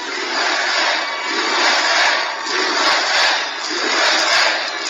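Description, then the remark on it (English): A large crowd at a political rally cheers and roars continuously, a dense, loud wash of voices that swells and dips in waves with no single speaker standing out. “Huge crowd, huge.”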